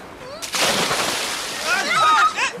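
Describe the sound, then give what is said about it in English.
A heavy splash as a man jumps off a boat into strong sea waves, followed by sustained churning and sloshing, with raised voices calling out over the water near the end. “He's jumped off the boat.”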